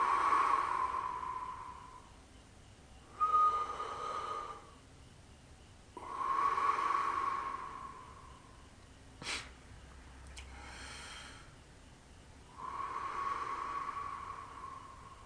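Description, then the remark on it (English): Slow, deep breaths drawn in and let out by a person with eyes closed, breathing deliberately: about five long airy breaths, each lasting a couple of seconds, with quiet pauses between. Soft, with no talking. “So I'm intentionally breathing kind of deep in and out slowly.”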